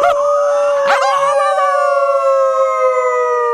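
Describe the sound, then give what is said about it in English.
A person from Amherst, Massachusetts, introduced as the wolf, lets out a loud wolf-like howl, a single sustained note with a quick wavering rise near the start before holding steady. No talking accompanies it. “By the wind, ladies and gentlemen, the wolf.”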